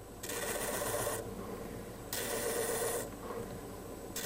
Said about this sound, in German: Es sind zwar nicht Diamanten, die hier gerade an der Schleifmaschine bei der Firma Graftschim geschliffen werden, aber andere Edelsteine.